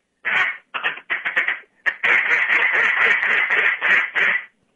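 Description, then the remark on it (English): A voice imitates a duck call, loud: a few short separate quacks, then a long rapid run of raspy quacks blending together before stopping abruptly. “That's kind of like, you know, because you bull and duck call, you get it comes from your gut.”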